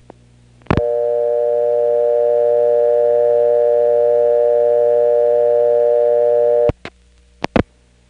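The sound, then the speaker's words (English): A steady payphone dial tone hums loudly for about six seconds, then cuts off abruptly with a click, followed by a couple more sharp clicks as a digit other than 1, 0 or 4 is dialed with no dime deposited. No one speaks. “It's not clear whether the test is done continuously on dial tone or whether it happens at the end of the first digit, but in any case, if you dial a digit other than 1, 0, or four, and there's no dime, here's what will happen.”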